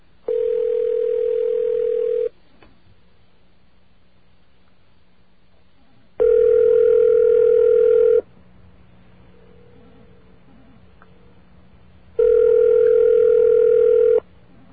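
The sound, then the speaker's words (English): An unanswered phone call on a Saturday to Freedom Village, USA in Lakemont, New York: a ringback tone sounds in three long, steady bursts about two seconds each, separated by roughly four-second gaps of quiet line hiss, with no one speaking. “Well, I guess they're not going to answer their phone.”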